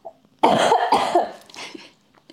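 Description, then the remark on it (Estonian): A forceful cough bursts out in a couple of harsh, raspy spasms, then trails off into a quieter throaty rasp before near silence. “Ma köhin kohe, nii et I am so sorry.”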